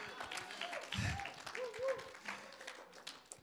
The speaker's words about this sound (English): You can clap your hands stronger. This is good stuff.